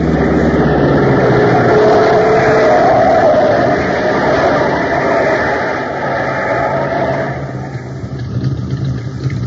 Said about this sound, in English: Look at the way those lights are bouncing. Souped up, I'll give you odds. Hey. What's the matter? That car's on the wrong side of the road. On the wrong side? He must be out of his mind. He's coming straight at us. Look out!